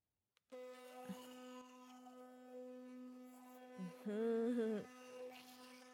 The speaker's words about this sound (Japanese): この電動歯ブラシを考えた人、天才だよね。磨くの超楽になったし。ブラシでこするの面倒だったんだよな。